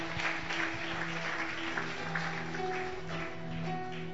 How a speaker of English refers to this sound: Clap your two hands together for the Lord.